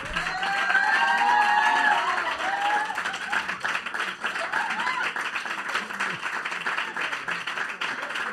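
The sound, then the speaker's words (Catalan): An audience applauds with steady, dense clapping for several seconds, joined early on by a few cheering voices, the applause staying loud and continuous before easing slightly toward the end. “No, perquè és veritat, l'aplaudiment és maco quan acabes una funció, t'ho mereixes, no?”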